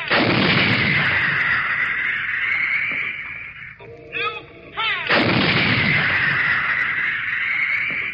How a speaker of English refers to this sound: You are listening to A Gun Position as this howitzer pounds round after round into the advancing human sea